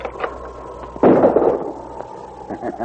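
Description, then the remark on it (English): A single loud gunshot, fired at a man cooking a meal by a campfire near the rim of a steep-walled canyon, cracks out suddenly, its sharp burst trailing off in a rumbling echo over about half a second, with a low steady hum underneath before and after. “Good shot.”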